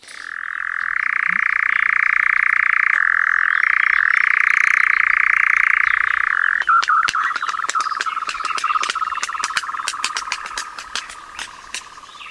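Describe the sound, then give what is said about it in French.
A crepuscular bird's rattling, motor-like churring song: a loud, steady, unbroken churr for about six seconds, then a stuttering series of rapid dry clicks and pulses as the bird gives little cries and claps its wings. No one speaks. “Voilà, là on vient de l'entendre, donc il a ce bruit de crécelle un petit peu là qui est assez étonnant. On dirait un petit peu un moteur, hein, et puis à la fin de ce chant là, il pousse des petits cris, il claque des ailes”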